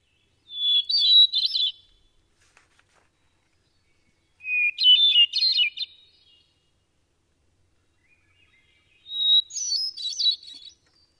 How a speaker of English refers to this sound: Now, the other kind of thrush, and I'm going to play this real quick, the hermit thrush is much more melodic.